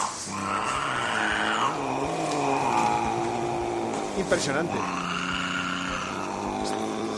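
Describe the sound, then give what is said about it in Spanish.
A cat yowls in long, rising and falling drones that mimic a revving motorcycle engine, loud throughout, with a person briefly exclaiming near the middle. “vamos a oír otra vez al gato que imita a una moto”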